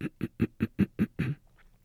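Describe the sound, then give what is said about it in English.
A soft, muffled closed-mouth throat clearing, made with the lips closed as a gentle way to clear phlegm off the vocal cords: a quick, steady series of about seven low, humming pulses, the last one slightly longer, with no talking. “Here's the perfect way to clear your throat without doing any damage. Close your lips and do this sound.”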